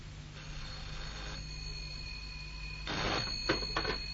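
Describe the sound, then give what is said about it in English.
A telephone bell rings briefly near the end as a phone call is being made, a short metallic trill followed by a couple of sharp clicks, over a steady low electrical hum with no one speaking. “a phone call was being made.”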